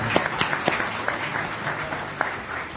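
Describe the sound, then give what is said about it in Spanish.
Scattered applause as the panelists of a Friday talk-show discussion applaud one another, with a handful of sharp, irregular claps standing out above a soft, steady murmur of clapping. It is moderately loud, and no one speaks. “o sea, se aplauden entre ellos también los tertulianos.”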